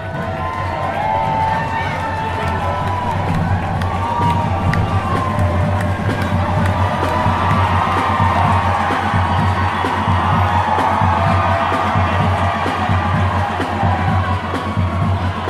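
A large crowd roars and cheers continuously, a dense, steady wash of many voices with scattered whoops and shouts rising above it, loud throughout with no pauses.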